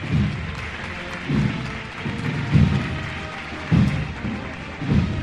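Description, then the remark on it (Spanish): A crowd at the El Rocío pilgrimage applauds steadily, a dense crackling wash of clapping that carries on throughout, with a low dull thump recurring roughly every second or so underneath. “Esos aplausos arriba, qué bonito lo que estamos siguiendo.”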